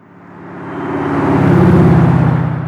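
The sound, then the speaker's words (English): A car engine hums steadily as the vehicle approaches, its sound swelling louder and peaking near the end as it drives past, with no voices present. “It's a car.”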